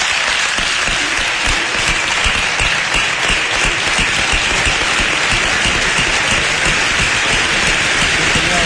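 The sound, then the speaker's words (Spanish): The entire theatre stalls audience rises to give a standing ovation to matador David Miranda, dense clapping at an even, loud level throughout with no pause, the sustained ovation of a whole audience. “El patio de Butaca entero se pone en pie, como ha dicho el presentador, para ovacionar al torero nubense, al que hace subir al escenario para tomar parte del acto junto al empresario de la Plaza de Toros de Huelva.”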